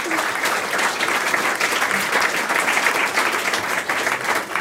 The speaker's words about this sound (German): Hat sie gut gemacht, oder? Ein Applaus für Maike Schäfer.